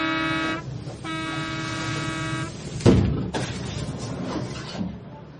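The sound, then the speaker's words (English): A minibus taxi blares two long, steady-pitched horn blasts over a continuous engine rumble, followed by a couple of sharp, heavy thuds. No one speaks. “It sounds a bit like kind of the ghost of a minibus taxi roaring down the road, an empty road, unpopulated by any other cars.”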